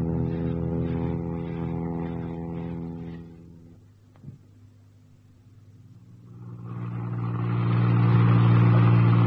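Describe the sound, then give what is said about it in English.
A car engine hums steadily, fades to a low idle with a brief click, then revs up loudly and pulls away, the rumble growing as it drives off. No one speaks. “Well, you whip me away in the late afternoon, fly me to Ireland in the pitch dark, land me in a field, dump me in a car, and drive off into the depths of the forest.”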